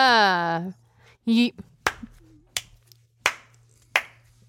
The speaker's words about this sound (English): I'm condescendingly clapping. Can you tell? No, it sounds like a regular clap. Yeah, it just sounds like a regular clap.